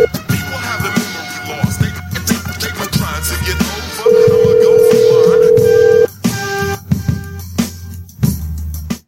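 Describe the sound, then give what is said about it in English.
A phone line rings out unanswered, a steady mid-pitched ringing tone holding for about two seconds over a busy, music-like background, with no one picking up. “Still no answer.”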